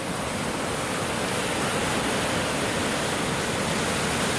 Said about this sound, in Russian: Вообще много волн. Они там одна за другой так вот идут.